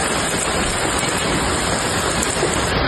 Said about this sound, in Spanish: Pues vamos a estar pendientes de la evolución de los heridos, vamos a estar pendientes, como decíamos, de los fuegos, pero también de la enorme tromba de agua y de granizo que ha caído en Bardallur, en Zaragoza.